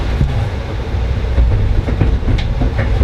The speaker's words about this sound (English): Business class section of train 64, the Maple Leaf. This is all reserved section and is the premium class seating on this train.